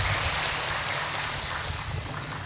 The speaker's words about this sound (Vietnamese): Nếu quý vị quan hỷ đó thì cho một tràng vỗ tay thật lớn. Cảm ơn quý vị.